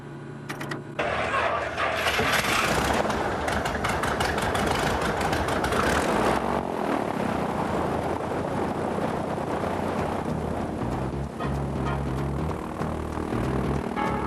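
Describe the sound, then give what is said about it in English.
A small propeller plane's engine, started with the key after the fuel switch and fuel pump are turned on and the mixture set, catches after a brief pause and roars to life, then settles into a loud, steady, rumbling idle, with no voices present. “Fuel switch, on. Fuel pump, on. Okay. Mixture, set. And of course, the key. Clear prop.”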